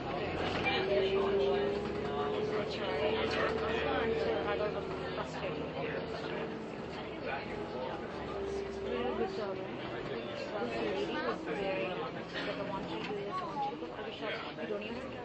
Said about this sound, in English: Oh, I know why there are so many people on this bus. They're all university students.